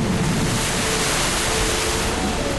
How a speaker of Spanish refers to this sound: Poco después se levantó un viento fuerte sobre ellos y el mar se agitó mucho.